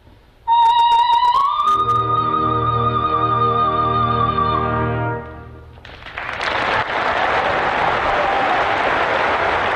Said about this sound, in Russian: Но показательно, что публика все равно награждает ее аплодисментами.